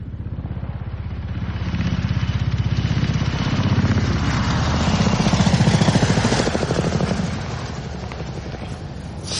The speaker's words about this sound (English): Probably a police helicopter that's just shattered the peace of this rural idyll.